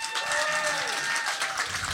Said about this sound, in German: Alle klatschen, die uns hören regelmäßig.